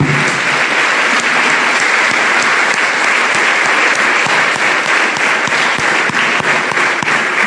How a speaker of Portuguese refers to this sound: Vocês aplaudem o Pai? Eu aplaudo.